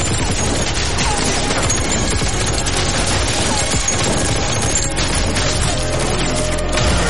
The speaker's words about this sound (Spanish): Un cañón sale de la manga de Marcus. Su brazo se levanta apuntando a los policías. Estos le disparan.